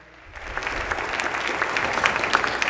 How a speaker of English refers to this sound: I just want to give you guys a round of applause and say thank you for the great work you're doing.